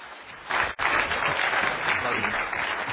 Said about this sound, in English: I paid about 10 of you to cheer, and that kind of got it rolling. for the others. I appreciate that.